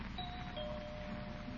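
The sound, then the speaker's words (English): A doorbell rings with sustained, bell-like chime tones over a low background rumble, fairly quiet, with no voices. “Guess she didn't hear the bell.”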